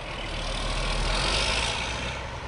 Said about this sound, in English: At a busy truck stop just south of Baltimore, dozens of 18-wheelers slide in and out of narrow parking slots as their drivers brake from their long hauls on the interstate.